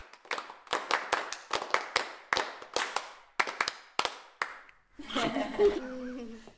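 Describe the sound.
Rhythmic hand clapping by dance students, a steady pattern of sharp, crisp claps with slight variations in spacing, before a voice starts talking over the last moments.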